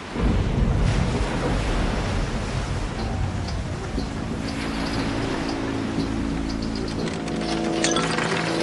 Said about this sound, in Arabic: إنها الأمواج، يبدو أن عاصفة تهب.